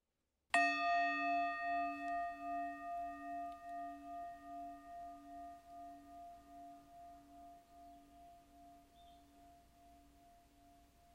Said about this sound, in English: On that note, we'll end this meditation with a single bell.